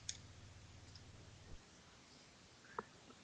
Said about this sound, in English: There he's typing. Yeah, I hear.